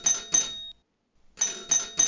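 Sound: doorbell ringing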